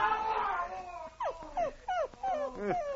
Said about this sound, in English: That howling even makes your dog nervous. Well, I guess he must have pulled the tooth that time.